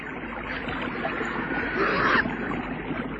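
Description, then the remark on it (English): Gentle water sloshes and laps steadily, with a brief swell of splashing midway, the kind of sound heard beside a small boat resting on water. “And they heard the sound of water.”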